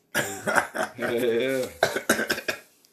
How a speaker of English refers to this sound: Okay. Okay, so the reason why I've been coughing, y'all, is because I've been smoking a little bit of ganja.